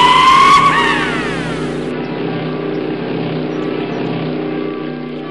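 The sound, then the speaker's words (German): Loud motorcycle engines in Warmensteinach rev and roar past, their pitch sliding down as they go, followed by a steady rumble of engines idling and droning on in the background. “Ach, das ist bestimmt wieder eine Motorradhochzeit.”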